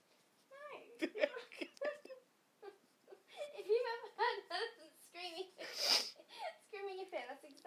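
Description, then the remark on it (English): Someone imitates an elephant with a string of high, wavering, voiced wails and squeals, rising and falling in pitch over several seconds, loud and without any words. “Do your elephant again.”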